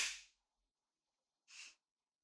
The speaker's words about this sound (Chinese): 怎么被自己老婆这样扇耳光，很爽吗？